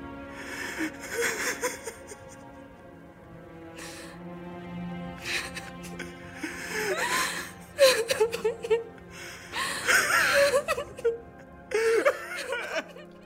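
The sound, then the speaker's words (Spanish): A man sobs and weeps, with gasping, shaky breaths and wavering whimpers that swell into louder wails in bursts, no words spoken. “A Itzel se le achicó el alma al oír el llanto de su hermano”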